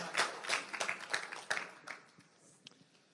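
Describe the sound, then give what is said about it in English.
A brief smattering of audience applause, a handful of sharp claps in quick succession that quickly thin out and fade to a few scattered pops. “Yeah, you can't clap for that either.”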